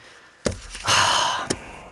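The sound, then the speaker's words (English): A brief nasal sniffle done as an imitation of a Trump sniffle: a quick sharp intake, then a breathy, hissy inhale lasting about half a second that ends in a small catch. No talking is heard. “there it is, I just did a little sniffle, a little Trump sniffle.”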